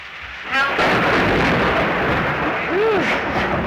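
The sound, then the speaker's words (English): Thunder breaks in abruptly and keeps rolling as a loud, continuous rumble for several seconds, with a brief faint voice sound emerging partway through. “That thunder sure scares me.”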